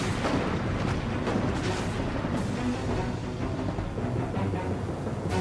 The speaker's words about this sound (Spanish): hábilmente navega junto a la costa sobre enormes y afiladas rocas hasta que hace encallar al barco peruano y luego lo hunde a cañonazos.